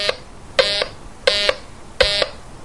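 A metal detector swept over a piece of iron sounds a low, dark, buzzy tone in repeated short bursts, roughly four beeps at an even pace, each fairly loud with a rough, harmonic-rich edge, and no talking.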